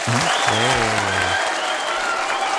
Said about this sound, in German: Hey. Das ist dein Applaus. Dankeschön.